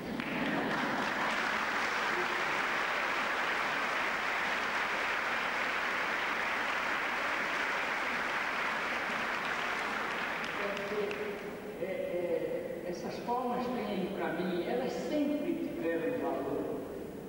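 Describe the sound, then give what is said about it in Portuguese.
A crowd claps in a loud, steady, dense wash of applause for about eleven seconds. Then it drops away and a man begins speaking. “Vocês não imaginam com que emoção eu atravessei essa sala hoje, levando palmo no meu corpo todo, dos dois lados, até que as palmas partiram em mim.”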